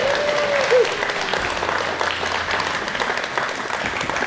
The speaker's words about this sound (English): And not most importantly, but as importantly as anything today, let's give a round of applause to our mothers. Happy Mother's Day.